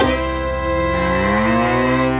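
A cow moos once in a long, loud, drawn-out low call lasting a couple of seconds, its pitch rising slightly toward the end, clear with nothing else around it.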